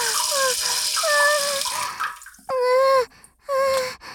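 A steady hissing stream of urine runs for about two seconds under a woman's drawn-out, gliding vocalizations, then stops, leaving her high-pitched voice sounding alone in short bursts.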